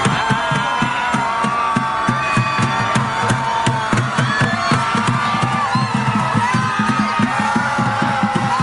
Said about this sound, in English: I want to show everybody how countless lunatic liberals across the country spent the one-year anniversary of Donald Trump winning the 2016 election. They literally gathered into zombie hordes in major cities to, quote, scream helplessly into the sky.